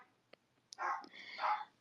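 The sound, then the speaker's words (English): Two short sharp clicks, then a pair of bright, harmonic barks from dogs, the second longer and louder, with no talking over them. “They are barking so much.”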